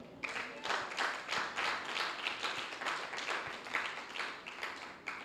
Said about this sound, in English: Oh, glory to God. I thought some people would just applaud right there.